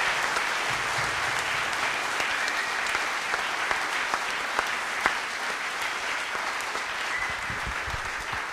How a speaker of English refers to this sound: So now you can applaud for John Moores University.